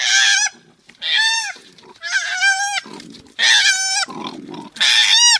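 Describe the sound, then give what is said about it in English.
An upset koala bellowing: five loud, harsh, high-pitched wailing cries in quick succession, separated by low, raspy grunting breaths, with no talking. “Oh, well, I hope it was a nice koala bear, because this is what an upset koala bear sounds like.”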